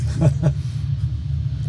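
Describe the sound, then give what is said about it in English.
A Daytona Coupe race car's deep, throaty engine rumble holds steady as it pulls away at the start of a race, with two quick surges of revving near the start and no voices. “Okay, that was the Daytona leaving.”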